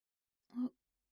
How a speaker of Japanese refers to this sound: あくび、まだ眠いの？もう一回寝る？